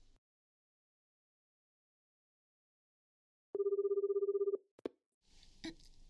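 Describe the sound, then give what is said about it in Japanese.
A telephone rings once at night in a short, loud, rapidly trilling electronic burst after several seconds of silence, followed by a sharp click and some soft rustling. “夜に電話するって言ったのに、遅くなっちゃって。”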